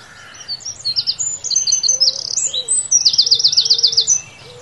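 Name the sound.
birds calling and chirping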